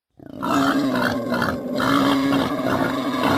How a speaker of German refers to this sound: Wildschweine, sogar mittlerweile richtig viele, wohnen schon in Berlin.